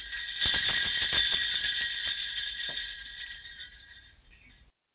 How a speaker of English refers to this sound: Nice, nice. Even got the jingle bell touch at the beginning and at the end.